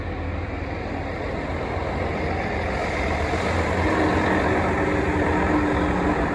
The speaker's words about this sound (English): Let this garbage truck go.